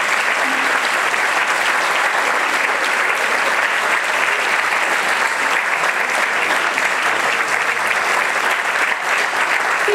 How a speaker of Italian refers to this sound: Io volevo dire che la persona che mi ha parlato di Daphne è qui presente e vorrei che tutti facessimo un applauso